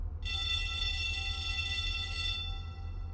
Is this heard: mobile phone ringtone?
no